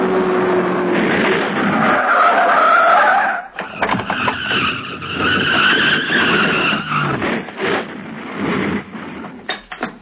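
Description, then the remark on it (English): A car skids hard with a loud, sustained tire screech and roaring engine as it rams another car with a flat tire off the road, a brief break, then more squealing and rumbling bursts as the vehicle swerves and jolts, with no voices. “I'm going to ram them off the road. They won't get far with their flat tire.”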